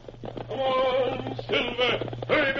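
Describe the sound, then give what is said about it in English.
A horse neighs in three shrill, quavering bursts, fairly loud, over a low steady hum; any galloping hoofbeats are hard to pick out beneath the whinnies. “From out of the past and the thundering hoofbeats of the great horse Silver, the Lone Ranger rides again.”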